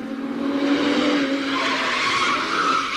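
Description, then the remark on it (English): A car skids to a halt with a loud, sustained screech of tires lasting about three seconds, steady in volume, with a rough engine-like rumble underneath and no talking. “Just for that, I shall do an impersonation of a car approaching.”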